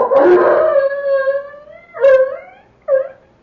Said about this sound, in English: The dog barking. He'll get the rest of them going. The Japanese will know there are strangers in this darkened village.